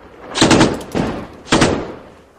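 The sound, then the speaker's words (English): Several sharp bursts of gunfire crack out in quick succession in Ramadi, Iraq, then a pause and another loud shot, each echoing briefly before fading into a low rumble. “Gunfire.”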